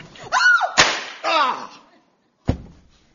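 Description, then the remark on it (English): Two sharp, loud gunshots about two seconds apart, accidentally shooting Orson Welles, the first quickly followed by a strained vocal cry, with another cry just before it. “You shot Orson Welles.”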